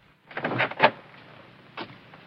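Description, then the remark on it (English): The door of a homestead creaks and rattles open over about a second as Ike opens it, with a wooden thump midway and a softer knock a moment later, otherwise quiet. “Ike opens the door.”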